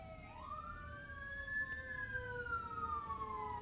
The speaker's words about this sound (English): I don't know if you can hear that, but there's a siren. There it goes. I can see the fire truck going by.